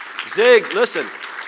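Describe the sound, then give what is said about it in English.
A brief burst of audience applause for Zig Ziglar, a steady hiss of clapping with two loud, tonal whoops or cheers rising over it. “Yeah, you can give him a big hand clap.”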